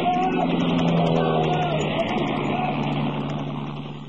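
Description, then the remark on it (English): A loud, steady aircraft engine drone with a low humming tone passes overhead, holding strong before gradually fading away toward the end. “That was one of ours that went over.”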